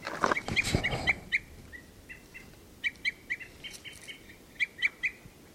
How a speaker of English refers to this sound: This is bird 384 here.